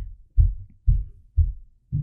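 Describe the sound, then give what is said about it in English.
Heavy footsteps of a woman walking upstairs: four dull, booming low thuds land at a steady walking pace, about half a second apart, with no voices over them. “Please excuse the heavy footsteps upstairs.”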